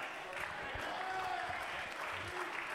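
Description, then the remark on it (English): An audience at a church service claps together in a steady, dense wash of applause that holds at an even level throughout, with faint voices rising underneath. “Clap your hands.”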